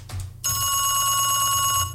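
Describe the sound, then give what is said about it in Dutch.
A telephone bell rings loudly, a rapid metallic trill that starts after a brief moment and keeps going without pause to the end. “Itaki kring, kring, kring. Je telefoon nog over.”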